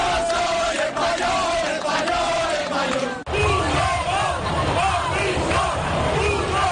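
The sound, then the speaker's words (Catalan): A large crowd at a demonstration in Catalonia against the independence challenge, held under the slogan "Prou, recuperem el seny", chants and shouts in a dense, continuous roar of many voices, with rising yells and bursts of cheering that stay loud throughout. “Aquests són només alguns dels sons que va deixar aquella manifestació que amb el lema «Prou, recuperem el seny» volia donar veu a aquells ciutadans que rebutjaven el desafiament independentista.”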